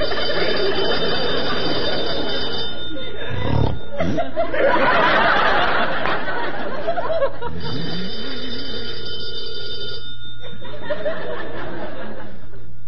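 A telephone bell rings loudly in two long, sustained bursts, with a stretch of chuckling and murmured voices in the pause between rings.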